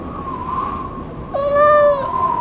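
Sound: cat meowing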